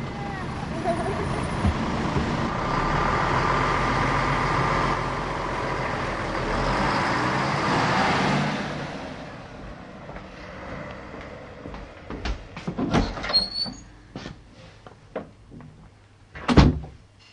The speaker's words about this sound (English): And by the time the school bus pulls up, she's accepted her fate.